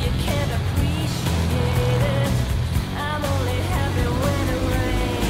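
A motorcycle engine rumbles steadily at a low pitch, holding a loud, even drone throughout, while thin chirping tones flicker above it.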